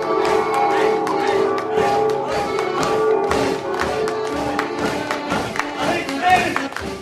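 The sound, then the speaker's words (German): Church bells ring continuously and loudly during an open-air theatre performance in a medieval prison courtyard in Thun, their overlapping strikes and lingering tones blending into a dense clamor, with crowd noise mixed in underneath. “Plötzlich hören Zuschauer und der Jedermann die Glocken läuten.”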